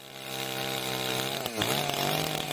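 A chainsaw engine runs loud and steady in a forest on Klekovača mountain in Istočni Drvar, Bosnia and Herzegovina, with a buzzing, harmonic whine, briefly dropping in pitch midway before revving back up to a high, sustained drone. No voices.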